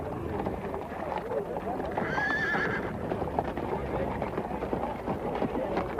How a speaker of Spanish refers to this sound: Los caballos fueron subastados esta mañana. Son alquilados porque aquí en Atienza no hay caballos. Son enormes, altísimos. Me dicen que son los que se usan para las películas.